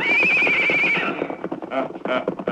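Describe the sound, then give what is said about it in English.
A horse lets out a loud, wavering whinny lasting about a second, followed by a quick run of hoof clops and scuffling. “Get him on his horse. Move him along, boys.”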